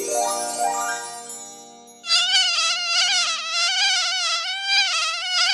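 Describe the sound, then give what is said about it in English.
A loud, high-pitched mosquito-like buzz, the Reparations Mosquito of a comedy sketch, whines steadily with a wavering pitch for several seconds, right after a brief run of descending, swooping whistle tones. “Hello, Reparations Mosquito,”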